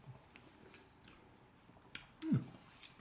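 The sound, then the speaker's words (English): A quiet sip of a grapefruit Negroni cocktail: faint wet mouth noises, then a brief louder slurp and swallow near the end, with no one talking. “Let's have a little sip.”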